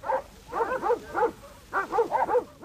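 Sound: sheepdogs barking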